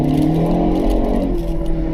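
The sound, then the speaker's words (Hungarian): A car engine revs hard in sport mode, a steady, loud growl with rich low harmonics that holds and shifts slightly in pitch as it accelerates, with no voices. “Ez most sportüzemmódban volt egy kicsit, így már azért más a hangja is, más ahogy harap is.”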